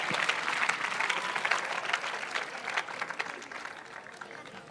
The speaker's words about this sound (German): Und einen riesen Applaus an alle, die jetzt stehen, die zum ersten Mal da sind und nicht zum letzten Mal hoffentlich.